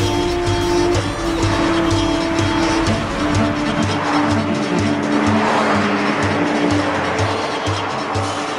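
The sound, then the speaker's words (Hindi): Car tires screech loudly and steadily for several seconds as the vehicle swings through a fast turn, a sustained squeal layered over a roaring engine with no voices. “इतनी तेजी से मत काटो मोड़। तुम्हें अपने बाबा की कसम, गाड़ी को साइड पे लगा लो।”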